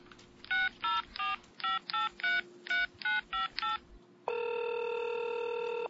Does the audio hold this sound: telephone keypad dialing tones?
yes